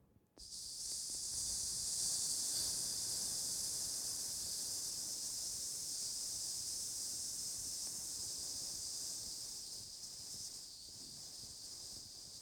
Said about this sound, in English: one individual would come with that bucket of water, and he would take that bucket of water and pour it very slowly onto that fire. And as he poured it slowly onto that fire, this is what you would hear.